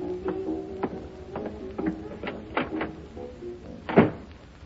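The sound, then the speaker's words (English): A door being opened: a run of small latch clicks and rattles with a faint creak, ending in a louder thump near the end, with no one speaking. “You know, I love to open that door and see you here like this.”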